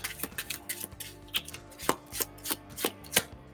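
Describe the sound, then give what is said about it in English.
Cards being shuffled as the emptied villain deck of a card game is reshuffled, a quick series of crisp, papery slaps and snaps at an uneven rhythm, moderately loud and with no talking over them. “I've got a shuffle.”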